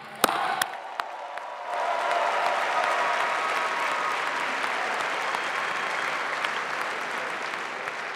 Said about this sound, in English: and now applaud them.